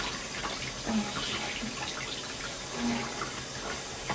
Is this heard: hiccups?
no